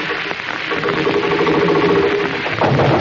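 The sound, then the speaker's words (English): A sound effect meant to be a sewing machine runs steadily for about three seconds, a loud, continuous mechanical whir with a fast, even rattling chatter and no voices over it. “That's supposed to be a sewing machine, folks.”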